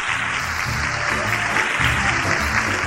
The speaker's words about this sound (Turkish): Onları da kocaman alkışlayalım.